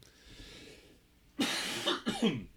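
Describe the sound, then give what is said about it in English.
Two harsh, loud coughs in quick succession, the first longer and raspier, the second shorter, following a stretch of faint low background hum with no talking. “Sorry about the cough.”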